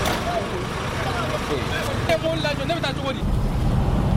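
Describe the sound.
Busy street ambience in the town of Diboli among hundreds of parked trucks, some carrying food, with a steady rumble of heavy vehicles and engines, layered with indistinct voices and chatter, the noise continuous and fairly loud throughout.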